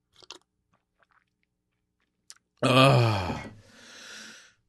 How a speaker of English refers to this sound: I'm going to take a sip of water here real quick.